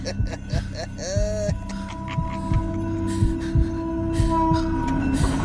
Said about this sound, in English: He drove the car off the tracks. Seconds later, the train sped behind us.